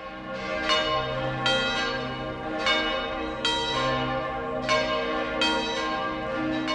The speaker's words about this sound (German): Nun läuten die Glocken europäischer Paulskirchen die Weihnacht ein.